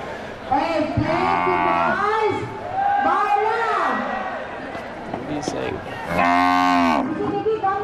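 cow mooing

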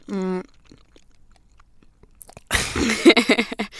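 chewing food

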